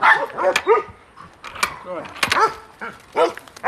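A dog barks in a few short, loud bursts, with brief pauses between each cluster of barks across the few seconds.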